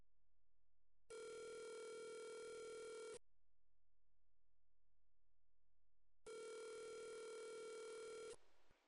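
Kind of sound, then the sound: signal or alarm, phone call ringing tone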